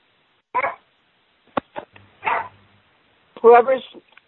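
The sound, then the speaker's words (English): A puppy barks and yips in several short, irregular bursts, picked up through an unmuted phone line during a meeting, with quiet gaps between the outbursts. “I mean, can you make the people that have the dog to stop?”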